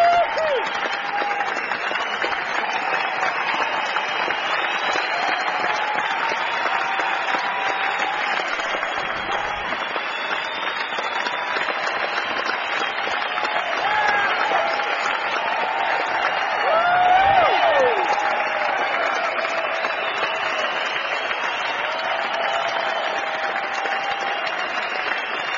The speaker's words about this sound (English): Walk back off stage now. Looks like they're going to try to get a little more applause out of us before doing another number.